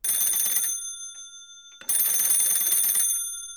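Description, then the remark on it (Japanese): A telephone rings twice, each burst a bright, metallic electronic trill lasting about a second, separated by a short silent pause. No voices are heard. “その電話はいつも俺が仕事を終えてからかなり遅い時間にかかってくる。”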